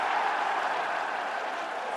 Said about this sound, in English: If New York score on this play, you hear the cheer that goes up. Going to be Eli Manning running for the end zone. He's going to get in.